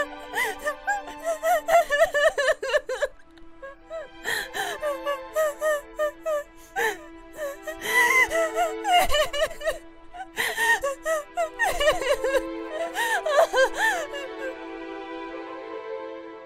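A person sobs and whimpers in broken, wavering bursts with sharp gasping breaths between them, fairly loud, over a faint steady background hum. The crying continues in uneven waves without words.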